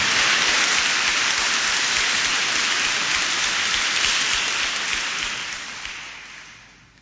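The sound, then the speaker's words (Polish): A crowd at a Radio Maryja gathering applauds for young people from a school complex in Lębork, a dense, steady wash of clapping with no voices, holding evenly before tapering off over the last couple of seconds. “I brawa dla młodzieży, która teraz razem z nami będzie.”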